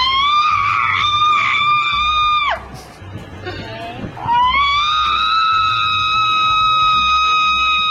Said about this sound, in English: Although I do have to say, this woman's screaming.